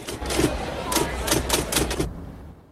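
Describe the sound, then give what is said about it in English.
Keys of a manual typewriter on a stall clack in a short, uneven burst of about six or seven sharp strikes over a low background hum, then the typing stops. “Her eyes focus on a manual typewriter on one of the stalls.”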